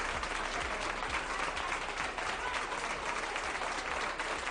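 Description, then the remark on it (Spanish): Steady, sustained applause from exhausted emergency health workers protesting at the doors of the Hospital General Universitario in Albacete, a dense wash of many hands clapping at once with an even loudness and no pauses, no voices standing out. “Son aplausos de sanitarios agotados, cansados y desesperados ante la actual situación de las urgencias hospitalarias de Albacete.”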